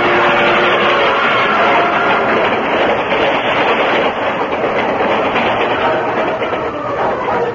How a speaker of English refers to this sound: Scant yards before the rushing train went past.